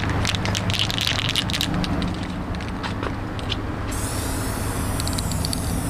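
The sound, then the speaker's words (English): Steady hissing bursts of spray paint from an aerosol can as a man paints over graffiti in the West Adams neighborhood of South Los Angeles, with a low rumble of street traffic underneath throughout. “But in the West Adams neighborhood of South Los Angeles, one man, armed with a can of spray paint, doesn't mind the challenge.”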